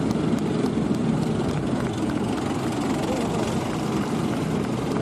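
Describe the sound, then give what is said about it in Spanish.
A steady, heavy roar of military aircraft, helicopters and fighter jet engines and rotors fills the air overhead, loud and continuous without letting up, with no clear voices over it. “Otros años, si mirabas al cielo, no parabas de avistar aviones, superpumas, helicópteros, aparatosos reportajes y, claro, el estruendoso sonido de los cazas.”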